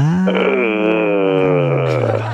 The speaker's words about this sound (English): That was a little loud. I think you need to do it softer. Oh my. What you had right there was more of a groan, which it can be very bad.